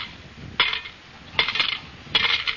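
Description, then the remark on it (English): Three bright metallic clinks of coins, 40 cents in all, dropping into a kitty, spaced at roughly even intervals, each a sharp jingle with a brief rattle trailing after it. “You put 40 in the kitty.”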